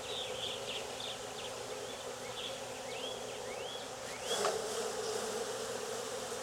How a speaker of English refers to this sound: Now I've got a box full of bees that I've shaken and also in the box.